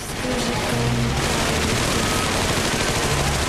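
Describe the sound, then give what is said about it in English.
Loud, continuous staged machine gun fire in a stage show as dancers pretend to fire machine guns at an old-fashioned car rotating on stage in dry ice, a dense rattle of rapid shots that keeps up without pause for the whole stretch, with no voices heard. “The girls on stage pretend to fire at it.”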